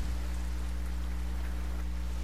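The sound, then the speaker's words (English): Steady rain falls without pause at night, heard from inside a car, a dense hiss of drops spread across the whole clip, with a low constant hum beneath it like an idling engine or cabin rumble. “It's night, and it's raining continuously.”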